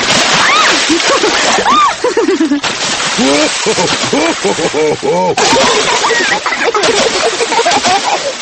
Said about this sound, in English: Steady on. You started it, Daddy Pig. Maybe that's enough splashing.